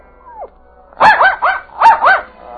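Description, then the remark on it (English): A small dog, Schnitzel, gives a brief falling whine while licking the face of its unconscious master, then breaks into quick, high-pitched, frantic barking, five sharp yaps in two rapid bursts, loud with no one speaking. “He whined as he licked the face of his unconscious master, then barked frantically.”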